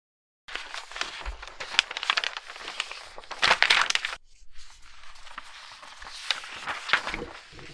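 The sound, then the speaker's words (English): Papers being shuffled, a steady stretch of crisp rustling and crinkling with sharper snaps throughout and a louder flurry midway, no voices. “Now, Daddy needs to stop shuffling papers.”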